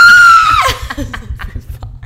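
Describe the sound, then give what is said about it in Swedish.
A man lets out a loud, exaggerated, strained yell imitating an orgasm cry, with a falling pitch, followed by short breathy bursts of vocal sounds or laughter. “Ja, det där är mitt kom-vrål.”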